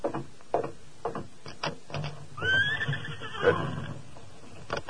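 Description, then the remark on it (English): A big white stallion lets out a single loud, drawn-out whinny that rises and then trails off, following a few scattered thumps and clatters. “He talks about money being hard to get, but he's sure riding a fine stallion. A big white one.”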